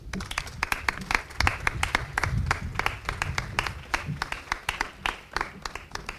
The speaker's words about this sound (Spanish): Así que, sin más, le doy la palabra, a la vez que ahora sí le volvemos a dar un nuevo aplauso a modo de agradecimiento y reconocimiento público a su grandísima labor.